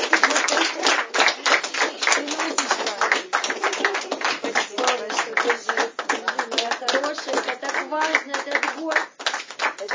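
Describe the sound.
A crowd at an Alcoholics Anonymous meeting applauds a speaker steadily for about ten seconds. The claps are dense, overlapping and fairly loud at a constant level, with a few voices faintly audible beneath the clapping.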